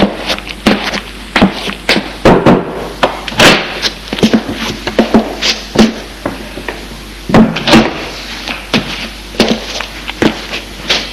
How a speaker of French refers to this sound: Un majordome le conduit dans la maison. Et va ouvrir une porte.